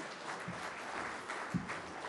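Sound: audience clapping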